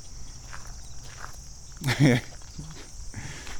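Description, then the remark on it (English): A steady hiss of insects or crickets fills the air in a large park, and a single louder crunching step back onto a road lands near the middle, with fainter shuffling around it and a brief bit of voice. “All right, I'm stepping back onto this road.”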